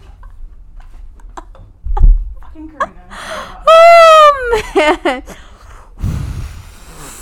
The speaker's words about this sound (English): I'm breathing so hard right now, you guys, because I'm so fucked up.